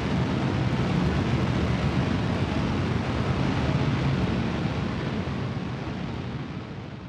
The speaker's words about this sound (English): The larger the area burned, the louder and harsher the sound. When you have lots of large fires burning at once, often for many days, the rumbles blend together into this deafening roar.